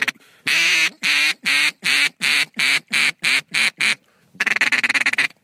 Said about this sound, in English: give us a quick little duck call as I just saw one emerge. Let's see if we can get that guy over here real quick, because I'd love to get a gunshot on camera.